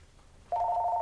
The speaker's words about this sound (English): Phone ringing.